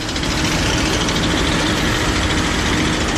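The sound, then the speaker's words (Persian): A steady, loud rumble of heavy Chinese mining machinery engines at gold mines on the mountain slopes of Badakhshan, Afghanistan, runs throughout, low and continuous with a slight idling throb, with no voices. “در دامانه های کوهستانی بدخشان، جایی که سالها سرای تشته های فلزی و دسته های پینه بسته در پی دانه های طلا با رودخانه می گوشید، امروز غرشی بیوقعی ماشینالات چینی و افراد وابسته به طالبان دل کوها را می درد.”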